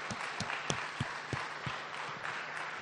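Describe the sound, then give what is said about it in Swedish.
An audience applauds a veteran steadily, a dense wash of many hands clapping with a few sharper individual claps standing out, sustained throughout at a moderate, even level. “Jag tycker vi ska ge honom en stor applåd.”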